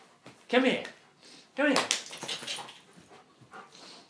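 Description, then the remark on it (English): A dog gives two sharp, whiny yelps about a second apart, followed by softer snuffling and rustling movement. “Come here, silly dog.”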